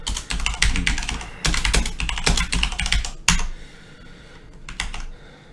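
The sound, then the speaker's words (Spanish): Rapid typing on a new computer keyboard while writing program code, with dense bursts of key clicks that pause briefly and then resume in a few scattered taps near the end. No one speaks. “Vamos a poner, por ejemplo, perdonadme, el teclado es nuevo y no me he acostumbrado aún todavía a él.”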